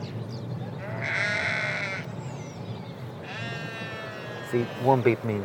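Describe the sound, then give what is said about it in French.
Sheep bleat twice beside a van, each call drawn out for about a second, over a steady low engine rumble. A voice briefly speaks near the end. “Tu vois, un bip signifie que les moutons doivent aller à gauche.”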